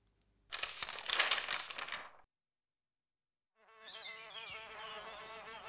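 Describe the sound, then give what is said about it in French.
A short burst of rustling, crackling noise, a brief silence, then the steady, droning hum of many honeybees buzzing together among hives in a rooftop garden, moderately loud, with no talking. “Il passait ensuite par le jar, où il remplissait ses godasses de terre, puis il montait rejoindre ses abeilles dans son jardin du ciel.”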